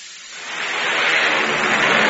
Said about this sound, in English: Hear that? It's the sound of a mighty American Airlines flagship taking off.